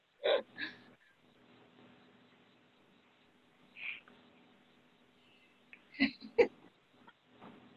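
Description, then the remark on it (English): A dog barks from the kitchen, muffled and fairly faint, in a few short bursts: a quick pair near the start, a lone bark midway, then another pair toward the end. “At least in the kitchen, barking his head off because he wants to be out here.”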